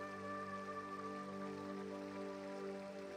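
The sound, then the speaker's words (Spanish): A soft, steady wash of flowing river water runs continuously beneath sustained, humming musical drone tones, staying even and quiet throughout with no voices. “Escuchando el sonido de fondo del río”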